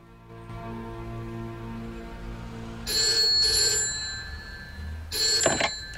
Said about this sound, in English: A phone rings at a table where Sean is waiting anxiously.